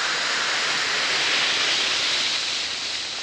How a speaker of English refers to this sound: You just try Alka-Seltzer. It really works. Drop two tablets into a glass of water like this. Listen to it fizz.